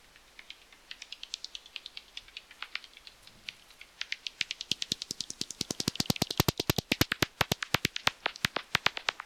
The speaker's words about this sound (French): Voilà, alors t'as capté, hein, tu sais peut-être que les chauves-souris, elles utilisent ces bruits-là, c'est pour se repérer. C'est pas pour communiquer avec ses potes, c'est de l'écholocalisation, ce qu'on appelle.